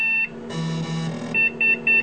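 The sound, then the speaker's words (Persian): A phone's electronic text message alert for a message from Paula: a steady tone, then a longer buzzy chime, followed by three quick, clear beeps in a row. No one speaks. “Nachricht von Paula.”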